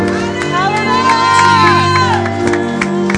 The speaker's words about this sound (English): With the Lord, let's give him a shout of praise and a hand clap.